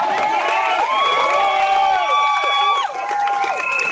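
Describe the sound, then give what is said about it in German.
A loud crowd cheers steadily for about four seconds, with sustained, wavering 'woo' voices rising and falling in pitch over a wash of clapping and general noise. “Ja, nochmal Applaus.”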